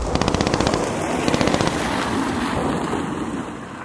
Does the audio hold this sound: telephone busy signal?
no